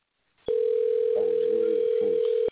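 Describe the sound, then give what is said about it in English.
A steady, loud telephone dial tone holds one unbroken pitch for about two seconds after a call to a show got disconnected, with faint voices murmuring underneath before it cuts off abruptly. “They got disconnected.”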